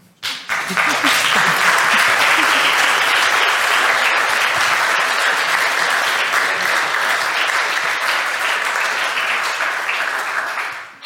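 An audience claps steadily for about ten seconds, a dense, loud wash of many hands that holds its level before tapering off at the end.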